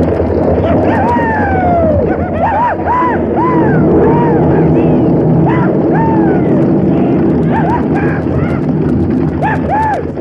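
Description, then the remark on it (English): On a dark, stormy night in the Santiago Mountains, a stampeding herd of wild horses thunders along in a steady, dense rumble, with repeated rising-and-falling whinnies and yells cutting through as an empty stagecoach races along behind. “And now, on a dark, stormy night, they stampede a herd of wild horses straight toward Crooked Knife's night camp and race along behind the thundering herd in the empty stagecoach.”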